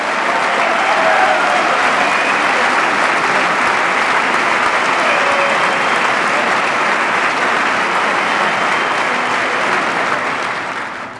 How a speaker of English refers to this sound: I thought I'd get some applause on that one.